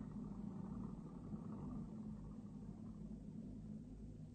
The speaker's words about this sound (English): There's a car coming up the hill. So, it won't stop.